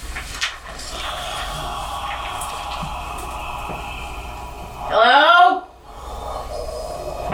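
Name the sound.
doors opening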